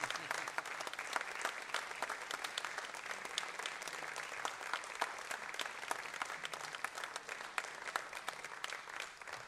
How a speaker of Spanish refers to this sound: Así que yo voy a pedir otro aplauso para Maxi Salvatierra, que se venga para el escenario.